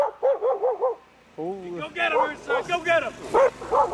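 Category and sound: animal, dog barking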